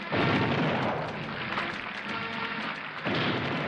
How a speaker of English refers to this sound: And now he's up there smiling, and they're doing the 21-gun salute, the cannon, boom, boom. And we're typing away. The typing, the sound of the typewriter gets loud, and the 21-gun salute muted, and finally, in the end, is drowned out.